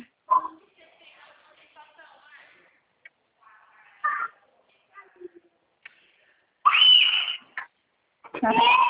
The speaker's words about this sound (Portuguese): Crianças, eu estou na sala de aula, as crianças estão gritando.